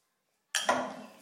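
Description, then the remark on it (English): After a moment of silence, a glass clinks sharply twice in quick succession, bright and ringing, as someone gets some water, then the tone fades out with a soft rattling tail. “Get some water.”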